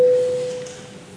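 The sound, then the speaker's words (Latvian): A single steady electronic signal tone, a parliament voting bell rung before a vote on a bill amending the law on the Bank of Latvia in second reading, sounds clearly at a fixed mid pitch, then fades away gradually over about a second against a quiet background. “Lūdzu zvanu, balsosim par likuma projektu grozījumu likumā par Latvijas Banku otrajā lasījumā.”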